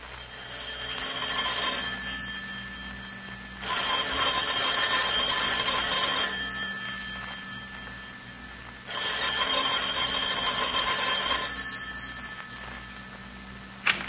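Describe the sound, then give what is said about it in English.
An old-style telephone bell in an apartment rings in three long, rattling bursts of about two seconds each, separated by short pauses, fairly loud over a faint steady hum, with no voices. “That sounded like our phone”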